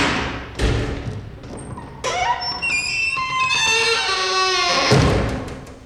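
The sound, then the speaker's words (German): A wooden door at the Akademie am Schillerplatz creaks open with a long, wavering squeal that slides up and down in pitch, framed by a dull thump at the start and another heavy thud as it shuts. “Oder ein anderes Beispiel, an der Akademie am Schillerplatz, da gibt es sehr viele quietschende und knarrende Holztüren.”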